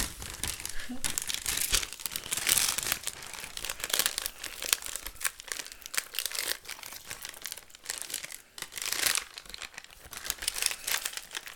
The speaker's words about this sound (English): Firmly hold the top of the pouch. Shake for 60 seconds.